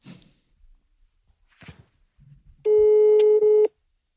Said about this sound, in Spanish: Voy a llamar a mi madre. Pongo el altavoz, ¿no? ¿Quieres decirle algo antes de que te coja el teléfono para que lo vean en la posteridad?